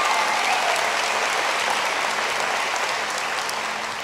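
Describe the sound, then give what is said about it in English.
An audience applauds the person who gave the introduction, clapping steadily for about four seconds, a dense, loud wash of many hands that holds level throughout before tapering slightly at the end. “Give her a great round of applause.”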